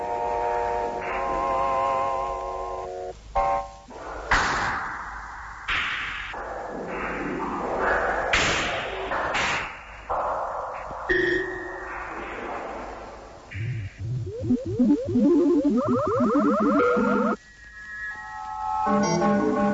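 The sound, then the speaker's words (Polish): An experimental musique concrète tape collage made at the Polish Radio Experimental Studio by splicing snippets of tape on stereo tape recorders: abruptly spliced electronic tones, buzzing drones, sharp thumps and swooping pitched sweeps, changing every second or two with no voices, ending in wobbling warbles and high beeps. “Słyszymy w tej chwili jedno z tych nagrań.”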